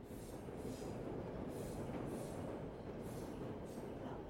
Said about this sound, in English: in their ground floor flat at 10 Rillington Place, as the trains thundered by